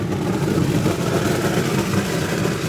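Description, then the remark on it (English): A steady, loud industrial drone as nougat, made from egg solution mixed with corn syrup and liquid sugar, is pumped from a large blender through a network of pipes, a dense low rumble with a broad hiss above it, holding constant throughout without pauses. “So if you look up there, he's evacuating the nougat from the blender.”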